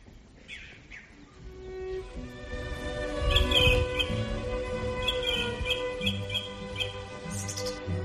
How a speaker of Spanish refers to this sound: Escuchábamos casi entremezclados los sonidos de los pájaros con esta pasión, según San Mateo, de Bach,